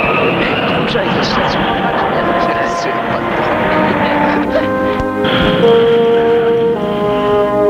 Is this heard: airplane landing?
yes